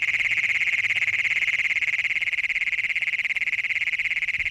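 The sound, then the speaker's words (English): An adult male Great Plains toad (Bufo cognatus) gives its advertisement call to find a mate: one loud, shrill, continuous metallic trill with a rapid pulsing rhythm that holds steady and unbroken from start to finish, alone. “We leave you this week in the company of Bufo Cognatus.”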